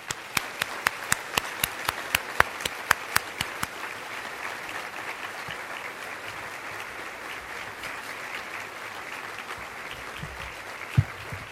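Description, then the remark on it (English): A crowd applauds steadily for students and the families who supported them at a school event, a dense wash of clapping with a few sharp, distinct claps standing out at the start, continuing at an even level for about ten seconds before tapering. “Join me in giving them a round of applause.”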